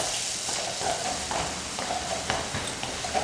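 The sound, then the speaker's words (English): Hooves of a caisson platoon's horses clip-clop at an uneven, unhurried pace at a 100-year-old stable at Fort Myer at 4 in the morning, over a steady hiss of background noise, with a few sharper knocks standing out. No one speaks. “The caisson platoon arrives at the 100-year-old stable at Fort Myer at 4 in the morning.”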